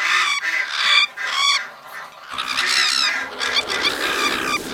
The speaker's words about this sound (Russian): Птицы нападают на нас. Медные перья свищут, как стрелы.